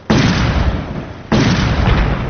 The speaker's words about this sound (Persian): صدای انفجارهای پیهم و تیراندازی به گونه پراگنده شدت گرفت.